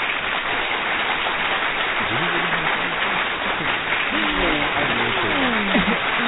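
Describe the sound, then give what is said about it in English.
Applause requested on the Young Generation Talk show: steady, dense clapping fills the whole clip at an even loudness, with a few voices calling out and talking over the applause toward the end. “Let's get some applause real quick.”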